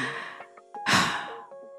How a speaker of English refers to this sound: Why the heavy breathing? It was, first of all, so dramatic. First of all, it was there. You can't start like that. I was trying to be dramatic, and you ruined it.